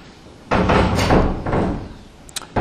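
A door bangs shut with a loud, abrupt impact that rattles and rumbles for about a second, followed by a couple of small latch clicks. No one speaks.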